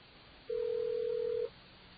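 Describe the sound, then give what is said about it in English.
A single steady telephone ring tone sounds on the line for about a second, a clean, even hum that starts and stops abruptly over faint line hiss, with no voices, after dialing out with touch tones to the Stony Brook telephone registration system. “Welcome to Stony Brook's telephone registration system.”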